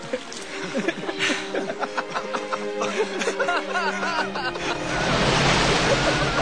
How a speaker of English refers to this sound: Suddenly, the tower of the submarine breaks the surface, and the enormous vessel appears, sweeping through the water past the stranded seals.